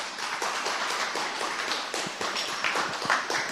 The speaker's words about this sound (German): Einen herzlichen Applaus und vielen Dank dafür.